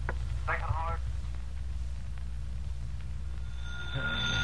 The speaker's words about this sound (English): Telephones, doorbells, always.